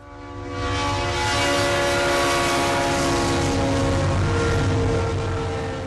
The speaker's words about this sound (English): Tula was once a busy trading center and railroad stop, but now the train just rolls by with nothing to bring or take from the town.